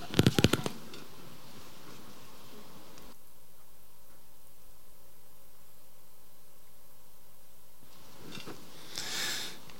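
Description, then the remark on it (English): Quick papery rustles and flicks of Bible pages being turned to Acts chapter 1, clustered at the start and returning as a soft swish near the end, with a quiet hum in between. “In Acts chapter 1, I love the sound of turning pages.”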